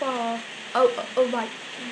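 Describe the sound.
Steady, hissing patter of rain drumming on a conservatory roof, an even wash of noise throughout, with a voice speaking over it in short bursts.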